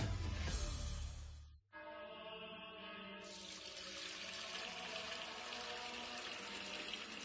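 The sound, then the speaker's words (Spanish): Fuente Umbría spring water pours steadily into a container, a loud gushing stream with a hollow filling resonance, briefly cut off after a second or two and then resuming without any voices. “es que no nos quedaba agua bendita. Agua pura de manantial Fuente Umbría.”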